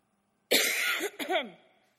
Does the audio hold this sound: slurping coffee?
no